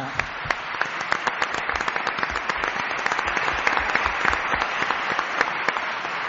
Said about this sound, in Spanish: Pues vamos a dar un aplauso al coro Polinia.